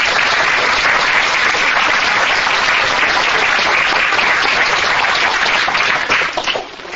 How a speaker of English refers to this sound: Please give him a good round of applause.